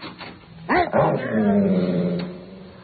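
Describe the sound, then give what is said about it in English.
A frightened dog gives a couple of sharp, high yips, then trails into a long, wavering whine that fades away. “Oh, the poor thing is frightened to death. All right, now, officer, we'll try this big net.”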